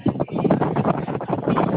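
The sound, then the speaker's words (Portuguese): Loud, gusty wind buffets a phone microphone, producing a continuous muffled rumble that surges and dips for the whole two seconds, with no clear voice coming through. “Tá ventando, eu acho.”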